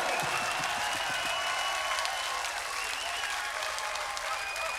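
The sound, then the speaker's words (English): Sustained audience applause, a dense steady wash of many hands clapping at even loudness throughout, with no break and no speech standing out. “Applaud yourself!”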